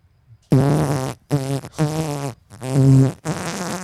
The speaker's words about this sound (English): And out came the loudest fart of his life, like a shotgun in a tin shed. Instant relief.